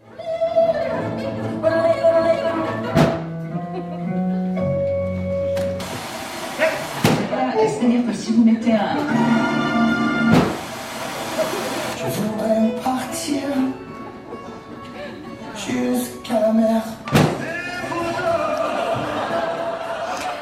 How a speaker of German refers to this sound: Besonders deutlich ist das zu erleben, wenn Auto und Musik verschmelzen in einer humoristischen Szene zu Beginn. Da funktioniert das Autoradio nur je nach Türstellung des Autos. Offen, geschlossen, dann gibt's Empfang oder eben nicht.